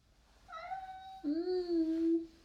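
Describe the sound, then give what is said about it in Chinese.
A cat named Mengmeng, asked to meow again, meows twice in quick succession, fairly loud: a higher, thinner call followed by a longer, lower, drawn-out meow, with no talking. “同意的话就再喵一声。”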